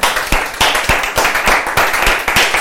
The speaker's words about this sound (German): Lasst uns Jesus einen Applaus geben. Halleluja.